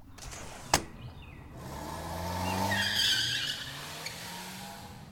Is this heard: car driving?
yes